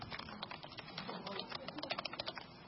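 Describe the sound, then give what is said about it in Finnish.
Rapid, steady clicking of keys on a computer keyboard as a person types a note to themselves for the future, a dense run of light taps that continues for a few seconds, fairly quiet. “Mä teen tähän tämmöisen jutskan, että mä kirjoitan tänne itselle muistiin tulevaisuutta varten, että jaa tämä versio paperilla.”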